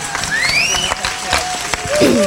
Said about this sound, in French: Aussi applaudir très très fort.